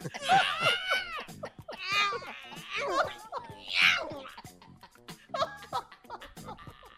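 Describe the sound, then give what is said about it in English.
A man lets out strained, wailing yowls that imitate a hurt cat, rising and falling in pitch in several drawn-out bursts, with laughter and chatter from others around him. “When he's done, he yells like an injured cat.”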